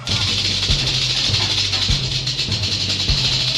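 A snake hisses in a steady, loud, breathy stream throughout, while soft low thumps pulse underneath at an even pace. No one speaks.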